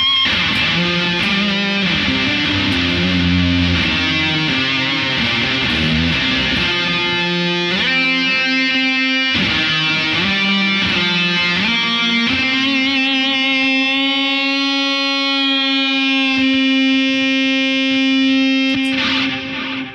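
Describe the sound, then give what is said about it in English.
A heavily distorted electric guitar through stacked Halo Hydra, Echoes, Blues Disorder, Super Rodent and Angry Orange pedals plays dense, saturated fuzz chords, then sustains long droning notes that ring out with swirling echo repeats, loud throughout with no talking. “And then if you were just to go completely nuts, do the Halo Hydra and Echoes with the Blues Disorder, Super Rodent, and the Angry Orange.”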